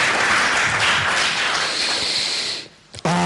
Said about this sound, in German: gibt mal dem Franz einen Applaus, auch wenn er heute nicht da ist.